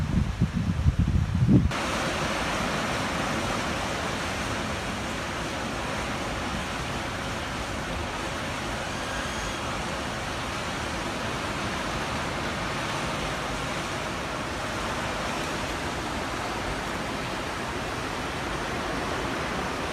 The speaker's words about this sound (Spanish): Quiero enseñarles un video de cómo está la bahía de Acapulco. Ayer hicieron un impresionante desemboque de aguas negras al mar como si fuera el basurero.